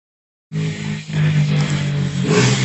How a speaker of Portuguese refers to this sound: Uma moto, peraí. Opa! Caralho. Vou fechar a janela. Peraí. É a mesma moto, tá andando em todas as casas.